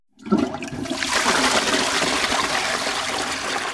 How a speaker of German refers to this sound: So klingen deutsche Toilettenspülungen schon lange nicht mehr. Die Deutschen sparen Wasser. Mit Spartasten im Spülkasten.